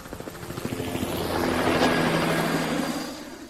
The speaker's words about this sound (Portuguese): É esse cálculo em tempo real que faz você acompanhar a trajetória do som mesmo sem vê-lo, como a desses helicópteros voando aí atrás.